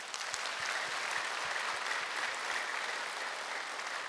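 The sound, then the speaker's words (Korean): A church audience claps steadily for about four seconds in encouragement of the church choir, dense overlapping hand claps forming an even, sustained wash of applause with no talking over it. “교회에서 찬양대, 우리 찬양대 가수 응원해 오는데 한번 격려 박수합니다.”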